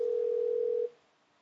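A steady, loud telephone dial tone hums continuously for just under a second as a call is placed directly to the speaker's brother's phone, then cuts off abruptly, leaving faint background hiss.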